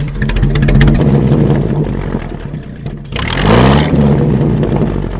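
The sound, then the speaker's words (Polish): A loud, chugging engine of a vintage tractor without a cab runs steadily, its low rumble briefly swelling into a harsher, revving burst midway before settling back to an even idle; the tractor is driven on its own wheels to the seaside in summer, from Środa Wielkopolska, Poland. “Kabin to nie mają te ciągniki?”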